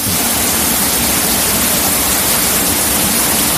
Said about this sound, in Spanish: Marqués de Vadillo fue otra de las más afectadas. Dentro de la estación, los tuiteros veían los chorros de agua enormes que caían en los túneles.